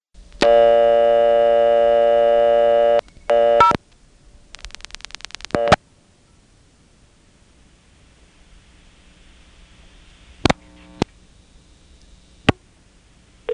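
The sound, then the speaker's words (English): Telephone touch-tone dialing of zero: a loud, buzzy steady tone for a few seconds and two short bursts, then a rapid run of about ten clicks, followed by a few isolated clicks over faint line hiss. “Let's go ahead and dial 0, and it's a safe bet that it's going to go to TOPS.”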